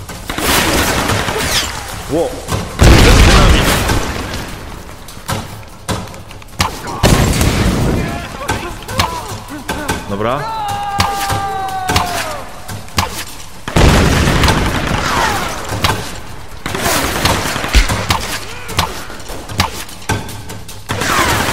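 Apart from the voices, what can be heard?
video game gunfire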